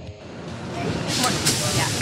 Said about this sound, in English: I work for Bloomberg Television, and this is my morning commute. My commute takes about an hour and 15 minutes on the train. I live in New Canaan, Connecticut. I work in Midtown.